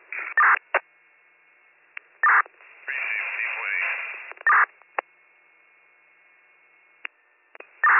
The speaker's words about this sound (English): Guys, I don't know if you can hear me, this radios are all static,